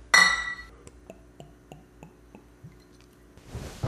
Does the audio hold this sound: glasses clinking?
yes